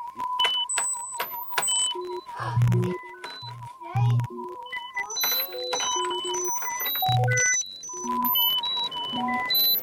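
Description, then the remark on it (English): Hearing test tones in the same frequency range as most hearing tests: many short, pure beeps jump between high and low pitches in an irregular pattern, with a steady warbling tone running underneath and a busy murmur in the background. “Tones are presented in the same frequency range as most hearing tests.”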